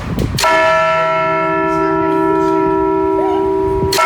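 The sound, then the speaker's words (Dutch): A loud bell in the tower of the Ollegriezen strikes and rings out with a long, sustained metallic hum, its rich overtones lingering steadily, with a second strike near the end. “De klokken van de Ollegriezen, die overigens goed hard klinken als je boven op de toren staat.”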